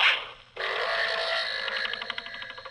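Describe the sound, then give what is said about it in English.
A brief hissing burst, a split-second gap, then a loud sustained buzzy rush with a steady ringing tone that turns into a rapid wobbling flutter as it fades, like an arrow sound effect. “Possibly due to archery incidents.”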